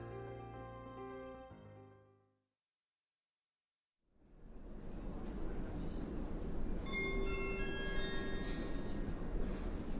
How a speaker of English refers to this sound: The train now approaching platform 9A is the central train service to Nottingham.